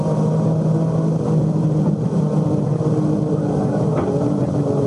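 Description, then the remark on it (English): A Formula One car engine runs in a steady, loud drone in third gear, going downhill toward the Adenauer Bridge, holding one gear with a constant low hum and a rough, buzzing texture throughout, with no voices. “Now we come to the Adenauer Bridge. Third gear in the Formula One.”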